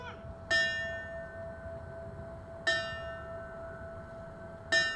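A fire bell is struck three times at slow, even intervals about two seconds apart during a 9/11 memorial ceremony in front of the 9/11 monument in Riverfront Park, Springfield. Each clang rings on with a lingering metallic tone over a low outdoor rumble.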